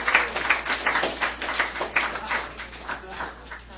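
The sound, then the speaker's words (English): Scattered audience clapping, a steady patter of overlapping hand claps at moderate loudness, fading slightly toward the end, with some murmuring voices mixed in. “No clapping yet.”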